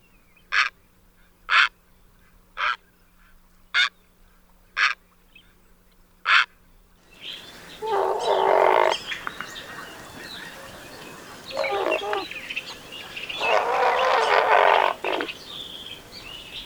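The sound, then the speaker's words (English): Six sharp, evenly spaced clicks, then several loud, harsh, raspy great blue heron squawks, long guttural croaks given in bursts against a noisy outdoor background, with no talking. “All right, next up, a majestic bird here on the west coast, the great blue heron.”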